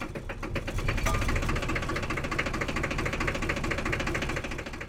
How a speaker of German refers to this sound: Ein Gabelstapler, der aussieht wie eine Dampflok. Pechschwarz das Blech, wie der Rauch, der hinten aus dem Auspuff qualmt. Der Fahrer schwitzt vor Konzentration. Kupplung und Gas arbeiten ungern zusammen. Sanftes Schalten, fast unmöglich.